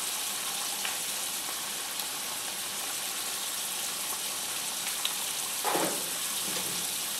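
Steady, dense sizzling of food frying in three hot pans over a fire, seasoning the pans, a continuous crackling hiss with a brief louder burst near the end. No one speaks.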